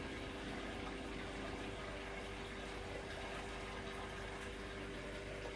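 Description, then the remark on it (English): A washing machine rinsing sleeping bags, with a steady, continuous rush and hum of water and pump noise, faint and unchanging throughout, with no voices. “That's the water when you rinse.”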